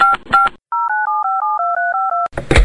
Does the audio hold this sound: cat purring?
no